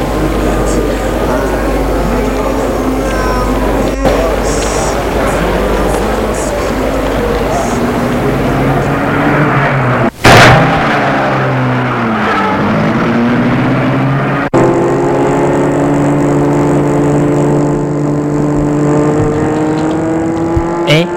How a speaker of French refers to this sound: Il a mis la voiture en route, qui file à vive allure